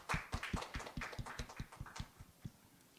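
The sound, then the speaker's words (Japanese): An audience at a church worship service applauds after a prayer, the claps landing in a quick, fairly steady rhythm for a few seconds before thinning out. The clapping is moderately soft, with no voices over it. “それでは拍手を送りましょう。”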